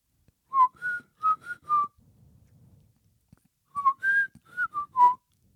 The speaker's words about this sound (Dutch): Heb je die ooit horen fluiten? Ja, op mijn oude werk iedereen. We deden hele koortjes. Wil je mijn mooiste horen?